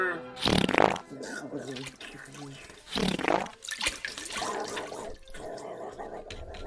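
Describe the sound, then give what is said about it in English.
A wet, gurgling liquefying effect as Blob turns into water: two loud squelchy bursts about two seconds apart, then quieter bubbling and sloshing that trails off, prominent. “Blob, liquidize. Liquid form, water.”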